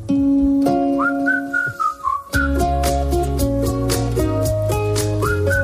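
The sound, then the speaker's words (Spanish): Someone whistles a wavering, odd little melody with sliding pitches, first over a sparse backing, then joined by a loud, busy instrumental track with steady beats. “Ese que silbaba así. Bueno, el que silba raro.”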